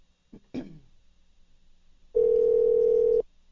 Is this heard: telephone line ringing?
yes